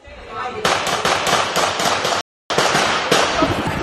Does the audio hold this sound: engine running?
no